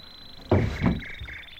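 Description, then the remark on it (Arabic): A door is pulled open for a visitor who knocked, with a sharp clack of the latch followed by a second rattling thump, and a faint steady whine in the background. “قومي وافتح الباب.”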